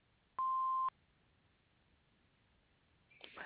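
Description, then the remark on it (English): A single steady electronic beep from an answering machine, loud and clear, lasting about half a second, followed by quiet line hiss and then a faint burst of noise at the end. “after the beep. We will return your call.”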